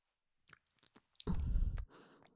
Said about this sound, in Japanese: むっちゅむっちゅ、卑猥な水音が聞こえてきましたね。